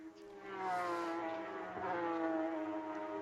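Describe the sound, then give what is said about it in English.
The engine of the number 99 race car, battling for Pro Am in the 992 category, roars steadily for a few seconds as it crosses the finish line, a loud harmonic whine that swells early and holds, with a slight dip and lift in pitch as it passes the line. “I fly and the 99 car coming across the line, and this is the battle for Pro Am in 992 as he tries to fight off Efren Castro.”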